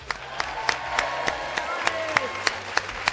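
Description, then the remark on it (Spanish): Steady, rhythmic audience applause for a school team at a competition, sharp evenly spaced claps about three per second, with a faint murmur of voices and hum underneath. “Así que un aplauso para el Ramiro de todos”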